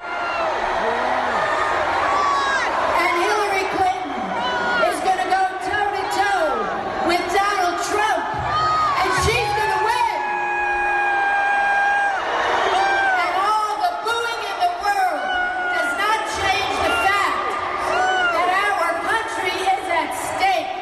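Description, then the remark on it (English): A large crowd of Bernie Sanders supporters boos loudly and continuously during a speech by Hillary Clinton surrogate California Senator Barbara Boxer, with scattered shouts and whoops rising through the din and amplified voices faintly mixed into the steady roar. “Now, here's some audio of Bernie Sanders supporters booing during a speech given by a Hillary Clinton surrogate, California Senator Barbara Boxer.”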